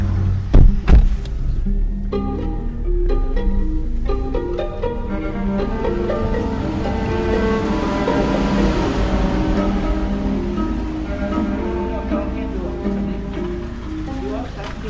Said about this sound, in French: Avec les voitures et les camions, c'est affreux. Attendez, je vais même fermer la porte parce que...